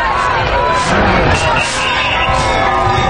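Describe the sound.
A large crowd chants a name in unison outdoors, many voices loud and close, with rhythmic swells of shouting rising every second or so over a continuous roar of babble.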